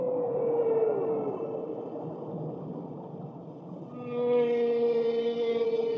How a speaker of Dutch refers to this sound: Opeens hoorden ze een huiveringwekkend geluid. De walvis praatte tegen hen.